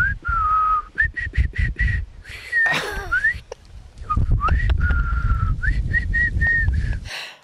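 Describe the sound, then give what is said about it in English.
Loud whistling straight into a microphone in short bursts and sliding notes, with breathy blasts and low rumbling distortion as air hits the microphone, making the tones sound harsh and overloaded. “Because, you know, if you whistle straight into the microphone, all you get is that.”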